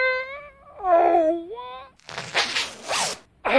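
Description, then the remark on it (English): A drawn-out, whining wail-like tone gives way to a loud, raspy zipper being pulled in a couple of scratchy strokes, ending with a brief start of another pull. “My zipper got stuck.”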